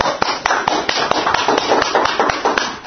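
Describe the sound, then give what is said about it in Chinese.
A group of people clapping together for a man after his testimony, a steady wash of sharp, overlapping claps with a few louder individual smacks standing out, lasting the whole few seconds without any talking. “哎，感谢主，我们要为他鼓掌好不好？”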